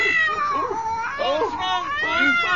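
A frightened cat, its fur standing on end, meows and yowls loudly, a continuous wavering, rising-and-falling wail over about two and a half seconds, with no break between cries.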